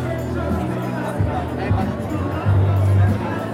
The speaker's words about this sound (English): I'm standing in a crowd of people gathered for the long-awaited reopening night of the Sursok Museum.